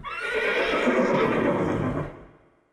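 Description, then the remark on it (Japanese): A horse by a carriage on a country road on Prince Edward Island, Canada, whinnies in one long, shaky neigh that rises and wavers before trailing off, loud and alone with no talking. “馬車には困った顔をした農夫のマシュー、そして隣には真っ赤なおさげの女の子アン。”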